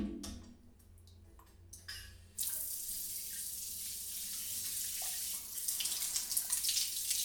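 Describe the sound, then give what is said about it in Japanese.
After a few quiet clicks and handling sounds, shower water suddenly bursts on and hisses steadily, with splashing growing a little busier toward the end. No one speaks. “シャワー熱くない？”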